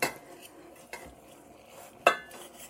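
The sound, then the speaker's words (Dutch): A knife cuts a cooked piece of deer calf (venison) in two to check the inside, giving three sharp metallic clinks and scrapes against a plate or board at uneven intervals, with quiet background and no talking. “Ik zal dat hertenkalf een keer helemaal doorsnijden.”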